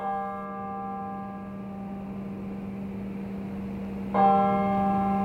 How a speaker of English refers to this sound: You could hear the bells bouncing off the brick buildings in the frozen Genesee River.